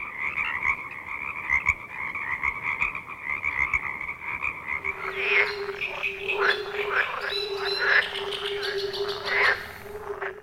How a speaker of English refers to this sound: I live in Virginia, and I want to know how can frogs make ribbit sounds? What a great question. How do frogs ribbit?